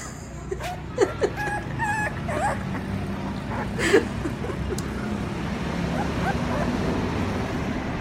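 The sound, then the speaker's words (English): Small puppies yip and whimper in a few short, high bursts near the start and again midway, over a steady rumble of background road noise. “The dog hung by its teeth, growling, trying to pull Frank off the gate.”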